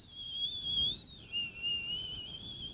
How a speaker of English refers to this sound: through it came slow currents of sound, as if rising from the sea, a prolonged whistle like a whale song.